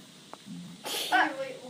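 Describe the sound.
A single forceful nose blow, a sudden breathy burst of hissing air lasting under a second, trailing into a brief voiced, honking tail, with faint background murmur before it.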